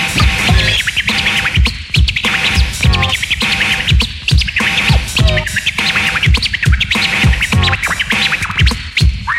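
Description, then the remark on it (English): Rapid turntable scratching with sharp, chirping bird-like squeaks, repeated rhythmically over a steady beat, loud, with no talking. “Now make it chirp.”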